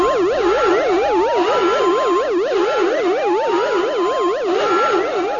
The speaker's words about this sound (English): One by one, Lando silenced the alarms.